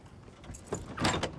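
pickup truck door opening

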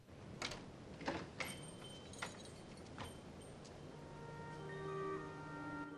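front door opening

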